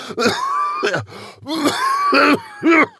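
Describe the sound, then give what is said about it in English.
A harsh run of dry, raspy coughs from a flushed, red-faced man, five or six hacking bursts in quick uneven succession with strained, wheezy throat sounds between them and no talking. “The light is red in the face, flushed, and he starts coughing a dry, raspy cough.”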